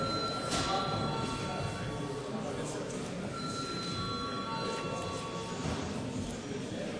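A parliament session bell, called for by the chair as deputies are asked to register with their cards before a debate, rings continuously for several seconds, a steady, shrill metallic ringing with a buzzing edge, holding an even loudness with no pauses and no voices over it.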